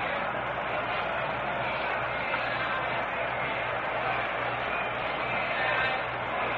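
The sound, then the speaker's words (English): Steady, dense murmur of a huge crowd filling a baseball stadium at a 1960 game between the Yankees and the Pirates, a continuous wash of many voices at an even level with no single voice standing out and no sharp cheers or breaks. “Huge crowd here today.”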